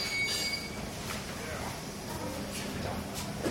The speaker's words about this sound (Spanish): Sí, llegó el tren. Está marcado en la parte frontal, dice Vic, Y VIC es un código que utilizan para diferenciar los trenes unos de otros.